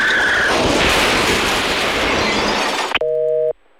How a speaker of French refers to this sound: On percute à la voiture.